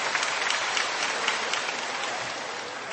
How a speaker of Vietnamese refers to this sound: Một tràng pháo tay để chúng ta đón chào những anh chị em ấy.